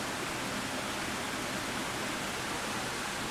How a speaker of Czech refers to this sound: Wow, tak to je úžasné. To je prostě přímo vodní elektrárna, vlastně domácí, přímo tady za oknem hned. To slyšíte, posluchači a posluchačky?